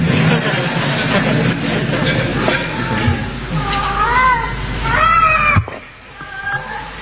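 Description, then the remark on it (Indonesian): A cat meows a few times in drawn-out, rising and falling cries, the loudest near the end, over a steady hum of background noise that cuts off abruptly. “saya kira kucing tidak cukup hanya dilihat ya.”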